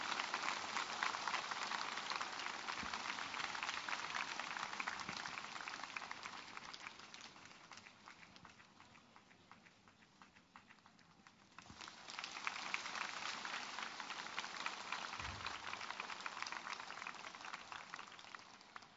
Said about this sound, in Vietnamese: Và cũng xin quý cha đồng tế nhận nơi cộng đoàn chúng con tràng pháo tay nồng nhiệt để tỏ lòng cảm mến tri ân.